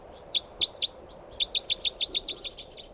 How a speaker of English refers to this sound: There's a bird right above me here.